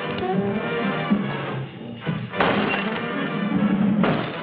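Vampires repeatedly bang on the walls of a house with dull thumps and bangs, irregular and muffled, over a dense, steady bed of background music that continues throughout.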